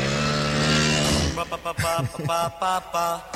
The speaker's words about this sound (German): Es ist mitten in so einem Lied. Ehrlich? Drin. Ja, es ist mitten in so einem Lied. Noch nie gehört. In diesem Lied ist das mitten drin. Ein Motorrad war das, oder? Ja.